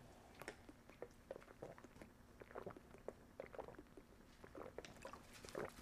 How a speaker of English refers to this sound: You get all my swallowing on the recording? That come through? Yeah, that's good.